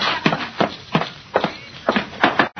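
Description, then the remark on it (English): Horses' hooves clop along at a steady walking pace as the horses are led away around the back of a house, seven or eight distinct hoofbeats in a loose rhythm, clear with no voices over them. “Pancho, take the horses around the back of the house.”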